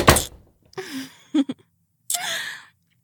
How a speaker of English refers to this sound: Yeah, close the door.